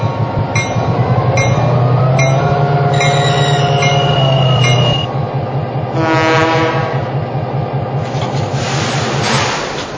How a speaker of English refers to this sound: Jacksonville on track number one. Train number three, the Henry M.